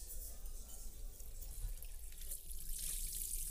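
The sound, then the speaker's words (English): Water runs steadily from a tap into a sink while fancy wedding china is washed by hand, a soft continuous hiss with low rumbling underneath, fairly quiet and with no voices. “But when I do have to stand there at the sink, carefully washing my mom's fancy wedding china by hand, there's something about the rhythm of it that feels”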